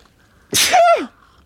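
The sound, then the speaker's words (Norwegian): A single sharp sneeze into a sweater bursts out, a loud explosive hiss with a brief voiced tail that drops in pitch, over a quiet background. “Jeg føler egentlig vanligvis, men for nå, grunnen nå, for at nå måtte jeg nyse nedover i genser”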